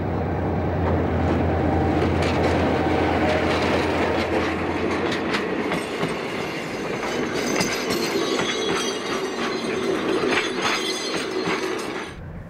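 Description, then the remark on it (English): A train heading towards Khartoum, near the ancient pyramids of Meroe, rumbles along steadily without stopping or slowing, its wheels clacking rhythmically over the rails with bursts of metallic rattling and squeal, loud and continuous with no voices. “But I see no station, and this train shows no sign of stopping or even slowing.”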